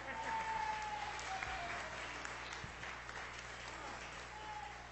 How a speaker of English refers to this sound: Y'all give me a hand for prayer.